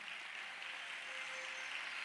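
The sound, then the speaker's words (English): An audience applauds during a sermon with steady, dense clapping that blurs into a continuous hiss of hand claps, holding an even, moderate level for the whole stretch with no voices. “I did not ask you to clap.”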